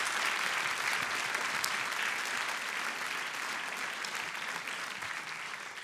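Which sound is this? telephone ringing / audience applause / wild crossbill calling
audience applause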